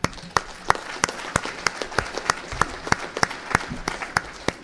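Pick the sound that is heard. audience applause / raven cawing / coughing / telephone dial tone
audience applause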